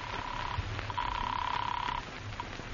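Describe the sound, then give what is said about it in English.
A telephone rings on an outgoing call: steady electronic ringback tones heard through the line, a short burst, then a longer one after a pause, with a low muffled hum underneath. “Finally, you put in a phone call.”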